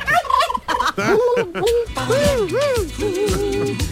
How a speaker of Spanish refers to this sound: Nos está causando muchos males esta plaga de pavos reales.